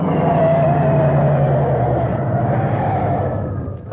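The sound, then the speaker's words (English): A car engine roars loudly on a highway as the car speeds up alongside another car, holding a steady revving drone for several seconds before easing off slightly at the end as it pulls over to the side of the road. No voices are heard. “Step on it. Come over to the side of the road so he'll have to stop.”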